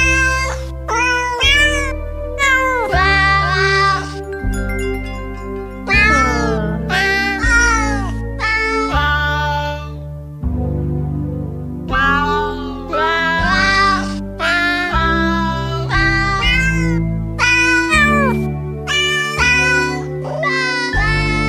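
Cat meows pitched and sequenced into a bouncy Christmas melody over a steady bass accompaniment, each meow landing as a note in a loud, continuous novelty song with no talking.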